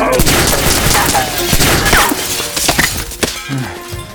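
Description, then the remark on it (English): A ragged burst of gunfire from troops posing as mutineers, several sharp loud shots at uneven intervals over a constant crashing, hissing din, with ground-floor windows shattering among the reports. “The NEMs, pretending to be mutineers, meanwhile, shot entirely too close for Margu's comfort and shattered all the ground floor windows.”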